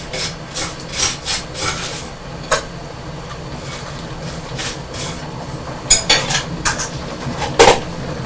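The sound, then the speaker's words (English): A knife scrapes butter across toast in a series of short, rough rasping strokes, with occasional light clinks of cutlery against a plate and no talking. “Yes, Mummy's going to put some butter on her toast.”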